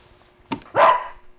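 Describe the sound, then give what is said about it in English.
A dog gives a single loud bark, preceded by a brief sharp yelp-like burst, with no talking around it. “Come near me, dog beast, and I'll wear you as a hat.”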